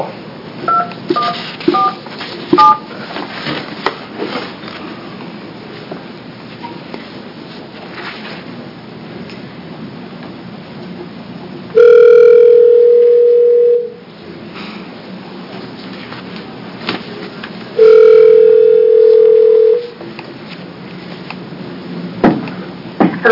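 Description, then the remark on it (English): Faint short beeps early on give way to two loud, steady telephone tones, each about two seconds long and spaced several seconds apart, over a low background hum, as a cell phone call is placed to bring a witness into an Oregon Legislature Senate General Government Committee hearing. “She's going to join us by cell phone.”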